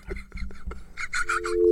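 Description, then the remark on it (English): A steady telephone dial tone, broadcast over the air on the radio, hums in during the last half second, continuous and unbroken, while muffled voice-like sounds and rustling carry on over it. “You're literally putting dial tone over the air.”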